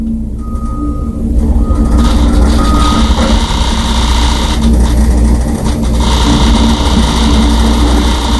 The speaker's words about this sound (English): Construction going on in front of his house, and we played a clip of how loud it is in his office. You have that there?